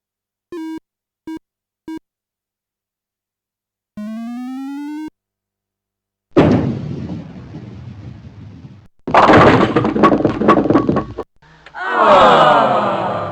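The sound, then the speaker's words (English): In a computer bowling game, a bowling ball rumbles down the lane and crashes loudly into the pins after a few short electronic beeps and a rising tone; a second burst of clattering follows. It is the first ball of frame 1; the ball has too much spin and knocks down 9 pins, leaving the 6 pin standing. “9 pins were knocked down with your first ball.”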